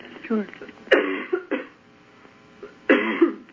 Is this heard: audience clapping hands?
no